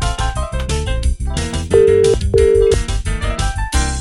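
Two short, steady telephone ringing tones sound one after the other, clearly audible over a loud, busy music track that plays throughout.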